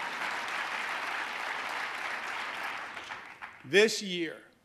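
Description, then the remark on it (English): An audience applauds during a New York State speech on affordable housing, a steady, dense wash of clapping for several seconds, gradually thinning out before a single voice starts speaking at the end. “But let's, you should keep applauding.”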